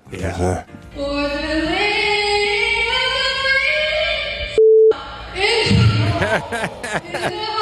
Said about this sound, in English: Listen to the crowd, though. Hold on before you say anything. Listen to that crowd grab their pearls.